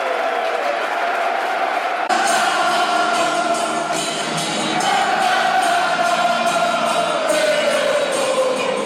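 A huge football stadium crowd sings and cheers together on a warm day, a dense, sustained wall of voices rolling on without a break, swelling louder partway through with scattered shouts and whistles on top.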